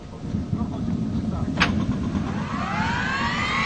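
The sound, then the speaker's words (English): The engine of a repainted military helicopter starting up while it is being loaded: a heavy, steady low rumble, with a high turbine whine that begins rising in pitch near the end as the engine spools up. “Another relic is our transportation, a repainted military helicopter that's being loaded for the final leg of the trip.”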